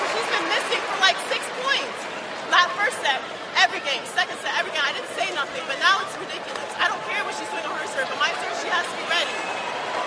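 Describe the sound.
A tennis crowd cheers at Coco Gauff's match against Siegemund. It is a dense, steady hubbub of many voices with scattered louder shouts and whoops rising out of the murmur, continuous throughout.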